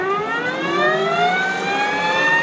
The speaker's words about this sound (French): Voici maintenant à quoi ressemble le son d'une Harley électrique.